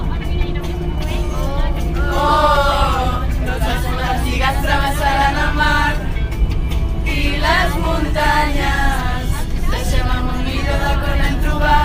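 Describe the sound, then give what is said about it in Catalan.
Many voices of scouts chatter and overlap inside a moving bus heading to Tàrrega, a steady low engine rumble running beneath the lively babble throughout. “Ara mateix ens trobem a l'autobús direcció Tàrrega i aprofitem aquesta estona per conèixer una mica més què és la Jamborinada.”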